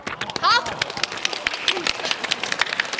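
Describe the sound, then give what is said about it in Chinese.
An audience claps for magician Liu Qian's brush writing of a letter F, the character 百 and the number 47 on a scroll, in a dense, steady patter of many overlapping hands, with a brief rising vocal whoop near the start and faint crowd voices underneath. “这你们都拍手啊，都是好人，都是好人哈。”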